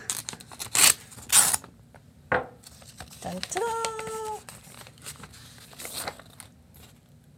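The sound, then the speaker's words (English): Paper rips and crinkles in a few sharp bursts as an envelope is torn open and its contents unfolded, followed by a voice briefly singing a short fanfare over faint rustling. “You've got an envelope there.”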